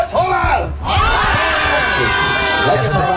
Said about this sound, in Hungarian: És itt még a tömeg nem annyira vérszomjas. Igen. Itt még a tömeg egy kicsit szavaz az életre kicsit is. Kicsit megosztott, igen.